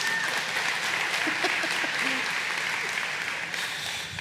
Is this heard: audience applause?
yes